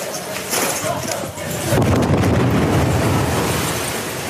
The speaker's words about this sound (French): Deuxième explosion à l'extérieur.